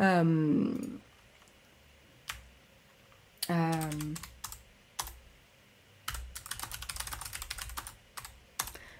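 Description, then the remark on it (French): Keys clatter on a computer keyboard: scattered single clicks, then a quick, dense burst of typing. A voice briefly murmurs twice in the first half. “Je vais essayer de ne pas maltraiter vos oreilles avec le clavier, hein, mais je ne peux pas vous faire de promesses.”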